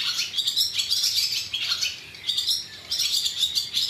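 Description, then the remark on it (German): A blackbird sings its fluting phrases amid a dense, continuous chorus of other birds chirping and twittering outdoors, steady, with short pauses between bursts and no talking. “Weiter entfernt hört man einen Rehbock bellen und die Amsel flötet.”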